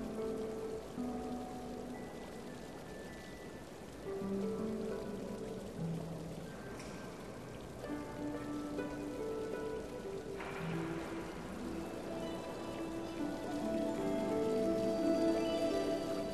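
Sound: cascading waterfall water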